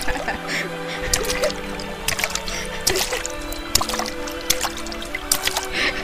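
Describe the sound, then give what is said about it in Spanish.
Water is thrown at a person, splashing and spattering in repeated fairly loud bursts, with dripping in between and voices shouting over the commotion. “¡No me eche tanta agua!”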